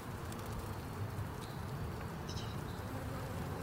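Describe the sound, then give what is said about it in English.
A bee, placed on a man so that it will sting him, buzzes in a steady, continuous low drone that holds for a few seconds, with faint high chirps in the background and no talking. “It's so funny, he puts the bee on him and the bee just won't do it.”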